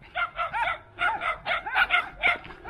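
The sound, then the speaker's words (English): Several stray dogs bark in the countryside in quick, overlapping bursts, a rapid string of sharp, fairly high-pitched yaps and barks, with no talking. “We have lots of stray dogs in particular out here in the countryside.”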